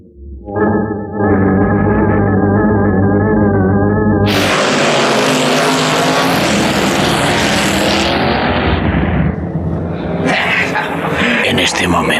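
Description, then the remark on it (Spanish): A motor scooter ridden by the gunman Chatras Metaxas races across the gardens of the Quinta Azar in Cairo: its small engine drones loudly, pitch climbing steadily, then bursts into a harsh, roaring rush of noise at full throttle. “La motoneta guiada por el pistolero Chatras Metaxas cruza los jardines de la hermosa Quinta Azar, donde Miklos y la joven científica Wanda Fischer se alojan en el Cairo.”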